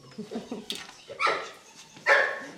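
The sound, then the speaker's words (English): A dog barks twice, two sharp yaps about a second apart, following a brief stretch of quiet talking in the background, at the Parcul Vacant Hermes hotel and ranch complex in Romania, whose stables hold ponies, a horse and puppies. “The stables are filled with ponies, a horse, and puppies.”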